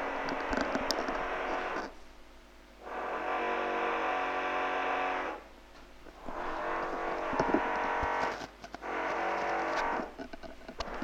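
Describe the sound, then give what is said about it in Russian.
A neighbour's power drill whirs in four long, steady bursts of a few seconds each, separated by brief pauses, its droning motor whine loud and even with no voices. “Но иногда он так долго-долго, знаешь, так где-то секунд 15 сверлит.”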